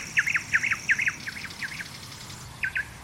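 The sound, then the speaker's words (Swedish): A nightingale sings in shoreline scrub at Jätterön nature reserve, just north of Varberg in Halland, in bright, rapid repeated phrases, a quick series of sharp whistled notes followed by a pause and a shorter burst, over a soft background hiss. “Det är ju inte bara en näktergal egentligen som finns här i buskmarkerna utefter stranden vid Jätteröns naturreservat.”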